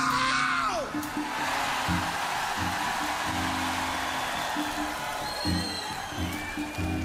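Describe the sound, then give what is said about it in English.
A huge crowd at an open-air concert in Lugano screams and roars in one loud, unbroken wall of noise, with shrill whistles cutting through and a low stage hum underneath. “Now, I'm going to pump you up one more time, Lugano, and I want to hear the mountains shake when you scream.”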